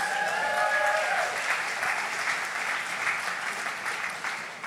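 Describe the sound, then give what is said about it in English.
Sustained audience applause for the speaker's two sets of parents, a dense steady wash of clapping that holds at an even loudness for several seconds, with a brief tonal whistle or cheer in the first second. “If you guys, just clap for them, come on.”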